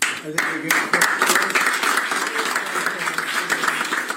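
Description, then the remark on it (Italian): Steady applause from a group, including Vice President Vance and Commerce Secretary Lutnick, applauding President Trump as he signs a document at a small desk in front of cameras: dense crackling claps sustained for several seconds with no pauses, fairly loud throughout, with faint voices mixed underneath. “è stato firmato dal presidente Trump davanti alle telecamere, secondo una coreografia già collaudata, chino su una piccola scrivania, contornato dai suoi fedelissimi, tra cui il vicepresidente Vance e il ministro commercio Lutnick, che lo applaudono.”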